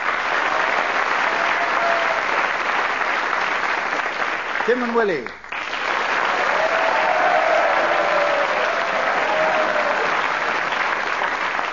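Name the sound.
audience applause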